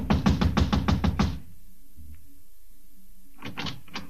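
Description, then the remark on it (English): A quick burst of about seven firm, loud knocks on a wooden apartment door, the building manager's door of apartment number 4, then a short pause before another short run of knocks. No voices. “I walked over and started knocking again.”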